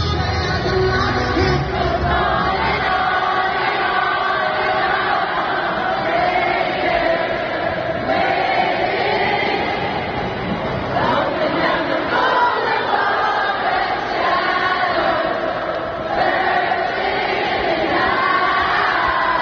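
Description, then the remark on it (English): A large concert crowd in Houston sings together with no band behind them after the power went out mid-song at a Friday night concert, a dense, steady wash of many voices carrying a melody loudly for the whole stretch, with occasional cheers rising out of it. “The crowd had no problem carrying the song till the end.”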